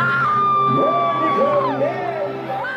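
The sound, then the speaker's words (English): A crowd at the CalArts graduation ceremony in the central campus courtyard cheers loudly and continuously as a mannequin walks onto the stage, with high whoops and yells sliding up and down in pitch above a dense wall of voices throughout. “The crowd goes wild.”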